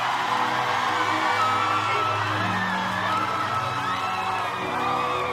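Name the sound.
audience cheering and whooping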